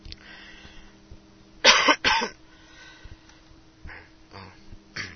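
Two sharp, loud coughs in quick succession, followed by a couple of softer throat-clearing bursts against a quiet background with no talking.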